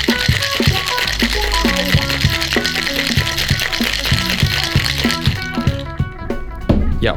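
A cocktail shaker rattles with ice in a fast, steady, loud rhythm as a cocktail is shaken over ice, the clattering continuing for several seconds before easing off at the end.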